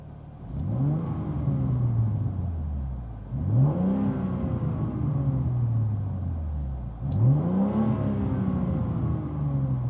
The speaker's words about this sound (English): But yeah, this right here is the car in M1 mode with the valves open.